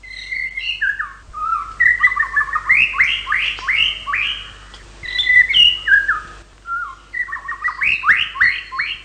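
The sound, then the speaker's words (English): A male white-rumped shama sings to attract a female, a rich, continuous song of melodious trills and fluting whistles, loud, with brief pauses between phrases and no voices present. “The series of melodious trills and flute-like whistles that make up the male's song when he's trying to attract a female can often be heard year-round.”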